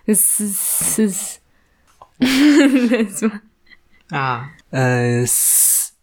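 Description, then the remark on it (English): A person makes sharp, hissing 'sss' sounds in a few short bursts, imitating a snake, with brief bits of voiced talk in between and one more hiss at the end. “Sounds like a snake.”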